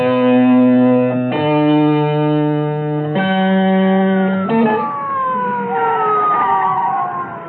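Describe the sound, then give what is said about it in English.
A loud, harsh siren jumps back and forth between two pitches in a steady hi-lo pattern, then its tone slides downward as it winds down. No one speaks. “What's the matter with you, Davis? I told you no sirens.”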